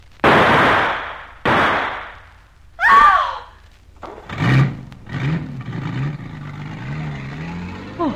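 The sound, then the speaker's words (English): Two sharp, loud bangs of gunshots from a man with a gun ring out, followed by a brief squeal, then a car engine revs and drones steadily as the car pulls away and the man gets away. “He got away.”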